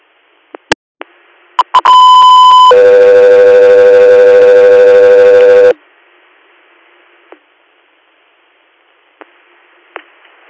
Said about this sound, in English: Echo 3 Air, standby for tones.